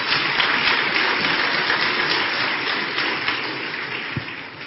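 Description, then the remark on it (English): An audience at a church service applauds steadily, a dense wash of many hands clapping at once, fairly loud and unbroken before it slowly tapers off toward the end. “Yes, that's a good place to clap.”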